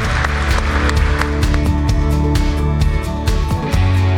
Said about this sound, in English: Would you seal that with a clap offering? Go ahead.